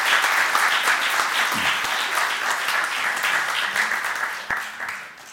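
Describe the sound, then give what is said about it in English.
A crowd applauds a woman who has just spoken, a dense wash of many hands clapping at an even, fairly loud level before easing off slightly at the end. “Do you want to give her a clap?”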